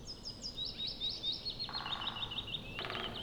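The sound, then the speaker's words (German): Two woodpeckers drum with their beaks on tree trunks in a green forest, two rapid rolls one after the other, rattling over a background of high, chirping birdsong; no one speaks. “Nein, hör mal, das sind zwei Spechte. Spechte hämmern bei der Futtersuche irre schnell mit ihrem Schnabel auf Baumstämme ein.”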